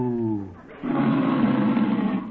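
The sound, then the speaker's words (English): A voice imitates the moo of Bossy, a cow being milked: a short, low, tonal hum that swells into a long, rough, roaring bellow, loud and unaccompanied by other talk. “Well, does your cow give much milk?”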